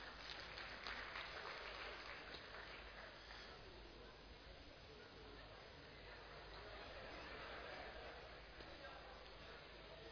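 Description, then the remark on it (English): An audience claps steadily and continuously for about ten seconds for a volunteer who has come forward to try, a dense, even wash of hand claps with some indistinct voices mixed in. “Let's clap for him.”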